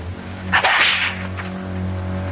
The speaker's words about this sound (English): Fettered in the palace dungeon, Omar winces as a whip lashes his bare chest.